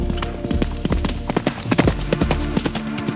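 horse hooves galloping

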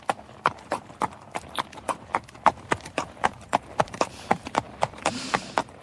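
horse hooves clip-clopping

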